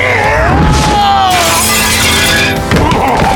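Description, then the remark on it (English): A loud crash of breaking glass bursts out about a second in as a man crashes through a front window, bright shards scattering and ringing for a moment before a heavy thud as he bounces off the boardwalk, with low rumbling noise throughout. “He crashed through a front window and bounced off the boardwalk.”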